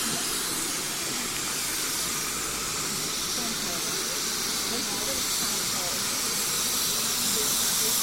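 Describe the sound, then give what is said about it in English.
A steady, loud hiss of steam pours from a locomotive at Swanage station, broad and continuous throughout, with low rumbling station ambience and faint voices in the background. “And as I say, all very, very busy here at Swanage, all tracks in use, and a lot of manoeuvring and movements of trains and shunting.”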